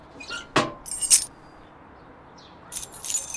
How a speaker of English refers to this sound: Keys. In the letterbox.